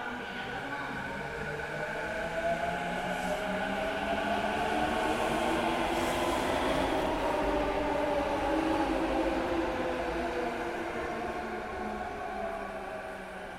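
A train in Japan runs steadily on its rails, a continuous rumble topped by electric motor whines that rise and fall in pitch across the whole stretch.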